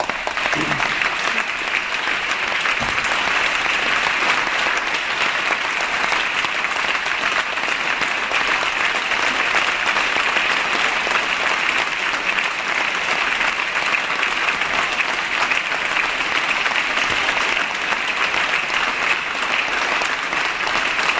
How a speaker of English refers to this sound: Let's not applaud too much. This is my longest speech. We're not going to get out of here if we don't keep moving.